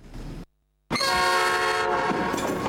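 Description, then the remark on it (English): A train passes on a track running parallel to a building, its horn blaring loud and sustained over a rushing rumble, after a brief moment of silence; no one speaks. “The building runs parallel with the train track.”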